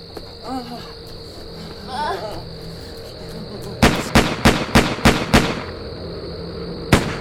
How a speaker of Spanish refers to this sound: Ocho disparos interrumpieron el silencio de la noche.